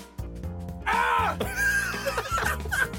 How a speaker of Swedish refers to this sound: Springer till ett hörn och skriker plötsligt till.